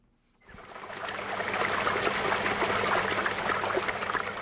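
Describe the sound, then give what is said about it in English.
Water trickles and burbles steadily in a small spring-fed stream on New Harmony Farm, north of Johannesburg, South Africa, below the Magaliesberg Mountains, a continuous babbling that rises in after a brief quiet start and carries on alone with no voices. “Fresh spring water nourishes New Harmony Farm north of Johannesburg in the shadow of the Magaliesberg Mountains.”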